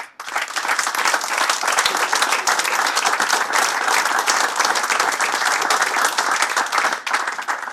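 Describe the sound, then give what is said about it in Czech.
A large audience applauds Jan Tomajko, owner and coach of HC Olomouc, steadily for nearly eight seconds, a dense, loud wash of many hands clapping at once with no pauses and no voices standing out. “Slyšíte sami velký potlesk pro Jana Tomajka, pojďte k nám.”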